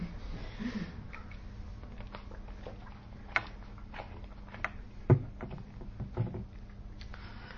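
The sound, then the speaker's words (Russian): A boat moves across the water with a steady low droning hum, broken by a few sharp knocks and splashy clicks. No one speaks. “Единственное, что лодка появилась, вот, кстати.”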